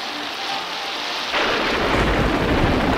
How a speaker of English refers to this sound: The man with no name, played by Clint Eastwood, adjusts his poncho as rain falls on the main street.